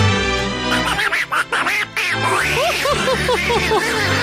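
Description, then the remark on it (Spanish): A voice imitates a duck, the character Pato Roland on Radio Disney, letting out a rapid, loud string of nasal quacks, with brief pauses early on before a steady chattering run. “¡Es mi amigo, el Pato Roland!”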